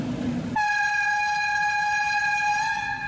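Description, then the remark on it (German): A red Schienenbus rail bus, nicknamed 'Ferkeltaxi', the last scheduled train on the Schluff line from Moers to Sevelen, rumbles briefly, then sounds a loud, steady horn blast on one sustained mid-high pitch that lasts about two and a half seconds without breaking. “Der letzte fahrplanmäßige Schluff war der beliebte rote Schienenbus, den man hier auch gerne Ferkeltaxi nannte.”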